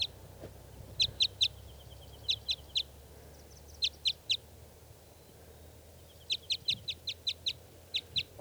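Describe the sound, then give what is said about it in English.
A single male wild bird gives sharp, high clucking notes in short clusters of two to seven, with pauses between bursts, fairly clear over a low, steady outdoor rumble. “One lone wild bird here.”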